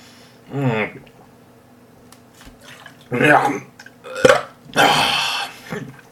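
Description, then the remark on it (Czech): Someone chokes and splutters on sauerkraut juice, with a strained throaty gag followed by several harsh, wet coughing bursts spread over a few seconds, loud and uneven. “No, jsem se zakucka.”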